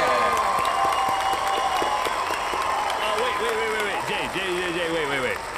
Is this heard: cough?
no